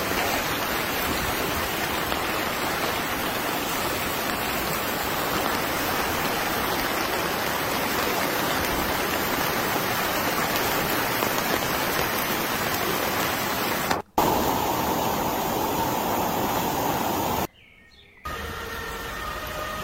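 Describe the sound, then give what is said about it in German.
A steady, dense roar of rushing floodwater in Rheinbach, North Rhine-Westphalia, fills the whole clip at an even loudness, broken by two brief cutouts near the end; no one speaks. “Und dann haben wir hier Rheinbach, Nordrhein-Westfalen, die Flut.”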